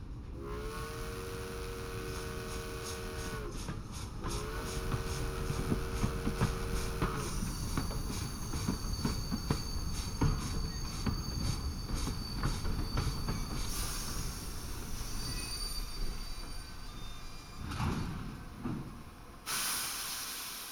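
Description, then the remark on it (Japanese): A train rumbles and rattles as it slows, its wheels and brakes letting out high, wavering squeals, ending with sharp bursts of hissing air. No one speaks. “そろそろこの辺りで停車いたします。”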